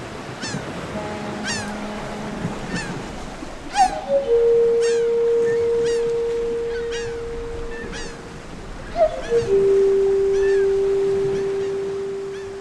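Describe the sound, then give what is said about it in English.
A recording of a sound installation at Logan Airport in Boston: two long, loud foghorn blasts, each opening with a rising swoop, over a steady sea-like wash. Repeated gull cries scatter throughout, and soft sustained xylophone, pan flute and bell tones drift in near the start. “Okay, I hear boat's gulls, foghorn, a xylophone, a pan flute, and bells.”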